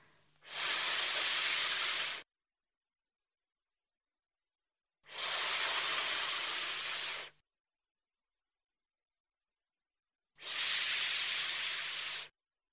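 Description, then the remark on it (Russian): In a speech exercise, a voice makes three long, steady hissing 's' sounds imitating water running from a tap, lips smiling and tongue against the lower teeth, each lasting about two seconds and separated by silent pauses. “Водичка льется из крана.”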